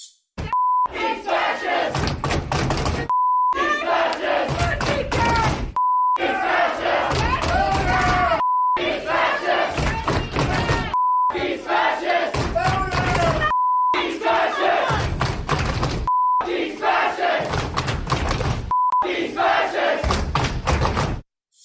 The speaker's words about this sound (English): And they did that by chanting and screaming at him the entire time. Listen to this.